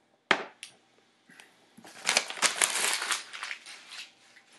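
A sheet of paper with ideas written on it is crumpled up, starting with a sharp crackle, then a few seconds of dense, busy crinkling that swells louder before easing off, and is thrown into a corner. No one speaks.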